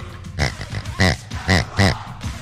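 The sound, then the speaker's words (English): A person imitates a pig, making a run of nasal oinks and snorting grunts in quick, uneven bursts, about four louder squeals standing out, fairly loud with no real words. “I'll do it in pig. I won't even speak common or human.”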